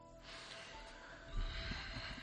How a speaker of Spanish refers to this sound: Esta respiración final y este silencio en radio que no son habituales de un segundo, yo creo que es suficiente.